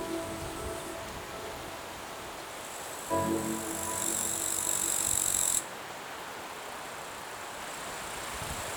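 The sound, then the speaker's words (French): A steady, soft hiss of wind moving through tree leaves at the Col du Grêle, with a brief louder, brighter swell in the middle that then drops back to the gentle background rustle. No voices. “Il caresse en douceur les feuillages des arbres et le crépitement des insectes.”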